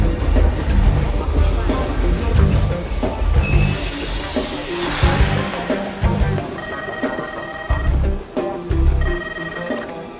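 Busy railway station ambience with a train rumbling, high metallic squeals and tonal whines from wheels or brakes, and indistinct chatter and birds in the background.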